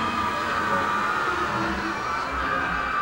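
Loud, steady howling wind of a thunderstorm with high, wailing whistles riding over a dense rushing roar, continuing unbroken from start to finish with no voices.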